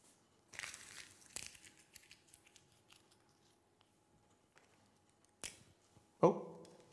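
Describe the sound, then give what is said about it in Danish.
Paper crinkles and rustles as a 100-krone banknote is scrunched up, with a burst of crackling early on, then a pause and a couple of sharper crumpling sounds near the end. “Dette er en 100-kroneseddel. Den er krøllet og grim.”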